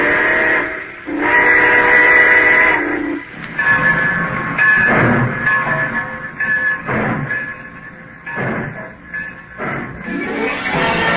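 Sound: steam train pulling out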